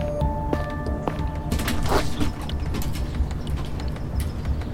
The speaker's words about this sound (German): öffnet die Garage. Die Tür ist wie immer zweimal abgeschlossen.